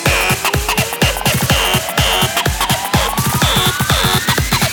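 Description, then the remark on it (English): Loud, heavily distorted electronic music with a steady pounding kick, a gritty tone sweeping upward in pitch, and bursts of harsh high noise layered over the beat. “Add more distortion.”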